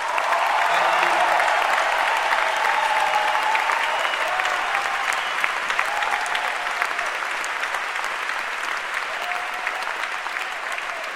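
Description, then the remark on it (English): Sustained audience applause for the directors and counselors present, a dense steady wash of many hands clapping at a loud, even level for the whole stretch, with faint murmurs of voices mixed in. “So, some of the directors and counselors are here tonight, which I'd love to give them a huge round of applause.”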